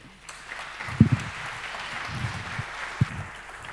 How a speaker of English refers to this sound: So I leave you with this wonderful speakers. Cheers. And a big applause for them.